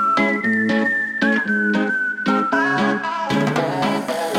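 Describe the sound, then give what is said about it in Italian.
A short musical break plays between questions with no one talking: a loud, full band groove with punchy beats and a high, sustained whistle-like lead note that slowly drifts lower. “ci fermiamo magari per un brevissimo stacco musicale”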